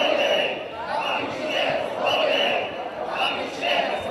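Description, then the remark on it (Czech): A large crowd of demonstrators roars and cheers outdoors on Old Town Square in the Czech Republic, protesting on a Sunday in defence of democratic institutions, in sustained, swelling waves, with rhythmic surges of shouting rising and falling every second or so, loud and dense throughout. “demonstranti z Milionu chvílek pro demokracii, kteří v neděli protestovali na Staroměstském náměstí za obranu demokratických institucí v Česku”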